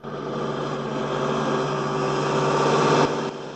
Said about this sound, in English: The big red bus labours on up the mountain road with Cyril at the wheel dressed in a stripy blazer and cap. It slows to a snail's pace as the road becomes steeper.